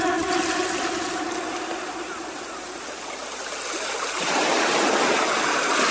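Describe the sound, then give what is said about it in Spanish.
Steady rushing ocean waves on the shore fill the scene, a broad wash of surf that eases slightly midway, then swells louder again near the end, with no voices present. “Soñé que estaba yo con mis primas gaviotas a la orilla del mar.”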